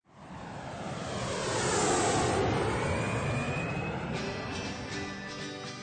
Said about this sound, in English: The plane is flying.